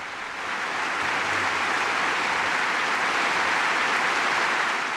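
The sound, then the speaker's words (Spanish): A large crowd in a grandstand at a racing circuit cheers and claps for a Ferrari race car, a dense, steady roar that swells in after the first half-second and holds loud and unbroken throughout. “Todos en la grada vitoreaban al coche de Ferrari.”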